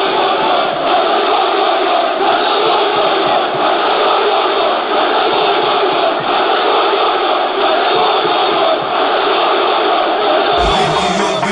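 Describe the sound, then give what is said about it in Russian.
A football stadium crowd of Beşiktaş fans in Istanbul roars without a break, a loud, dense wall of massed voices reaching about 132 dB that holds steady for the whole stretch, with a brief change in texture just before the end. “Уровень шума на стамбульском стадионе достигает 132 дБ.”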